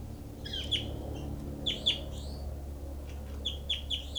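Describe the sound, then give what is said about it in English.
Repeated bright, high-pitched calls of bird 06, recorded at the birds' cells, come in short bursts of two or three chirps, set over a steady low hum. No one speaks. “Recording is bird 06.”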